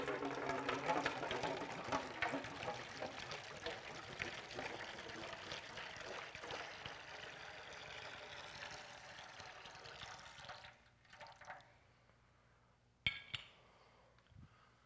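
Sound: water being poured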